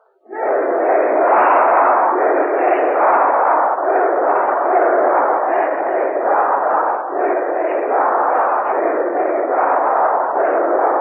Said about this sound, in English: The Vox Poppers who will conduct tonight's interviews have just come upon the stage, and here is a cheer from the students of the University of Tennessee.